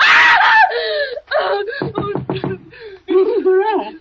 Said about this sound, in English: What on earth is wrong? Why were you screaming?